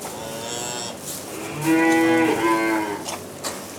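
Calves moo on a farm, with a few shorter bleating calls leading into one long, loud, drawn-out moo that wavers in pitch before fading, and no talking.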